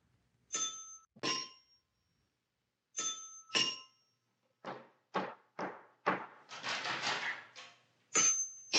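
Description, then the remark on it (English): A doorbell at a home chimes in two-tone pairs, twice, then gets rung over and over in a rapid, clattering flurry as a visitor leans on the bell. Loud, with no voices. “And your tension mounts until finally you hear the doorbell.”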